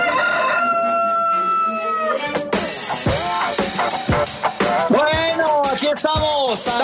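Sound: rooster crowing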